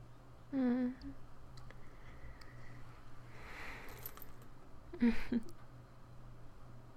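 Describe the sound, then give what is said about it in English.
A necklace rattles and clinks against a microphone in two short, fairly loud bursts, with soft rustling between them over a steady low hum. “Yeah, my necklace is getting in the way a bit, isn't it?”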